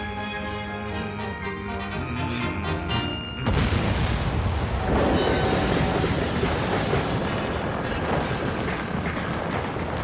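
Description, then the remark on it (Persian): A steady musical tone gives way to a sudden, loud explosion as a bridge is blown up, followed by a sustained roar of heavy rumbling debris lasting several seconds. “سلام دانر، چطوره همینطور که داری پلو منفجر میکنی برامون سرود کریسمس رو هم بخونی؟”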